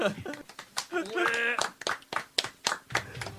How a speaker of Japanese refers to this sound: やったー、みんな拍手。